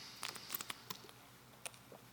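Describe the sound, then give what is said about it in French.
Someone takes a quiet sip of a drink: a quick cluster of soft, wet mouth clicks and a faint slurp, then a short pause and one more small click, with no talking. “Excusez, prendre un autre petit gorgée.”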